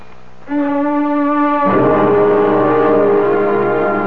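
An alarm goes off with a loud, steady droning tone that sounds for about four seconds; partway through, a second, higher tone joins in and the sound grows harsher. No one speaks.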